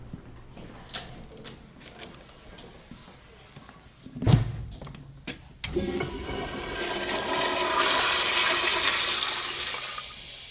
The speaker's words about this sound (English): let me show you a really cool little secret in the bathroom. Go in there and flush the toilet that says out of order and see what happens. I'm completely serious. This is not a junior high prank.